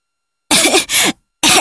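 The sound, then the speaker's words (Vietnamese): Three harsh, raspy, loud coughs in quick succession from someone who has just swallowed a mouthful of ash: two run together, then a short pause before the third, with no talking around them. “Nó mở miệng ra và lập tức nuốt phải một bụm tro. Nó ho.”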